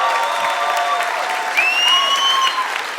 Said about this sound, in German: Komm, ein Applaus für Moritz!